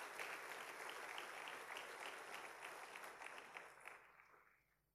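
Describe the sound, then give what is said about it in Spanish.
An audience applauds the Lord and the Holy Spirit steadily in a dense wash of clapping that holds strong for about four seconds, then thins and fades out by the end. “Dale fuerte ese aplauso al Señor, el Espíritu Santo del Señor que nos ha dado.”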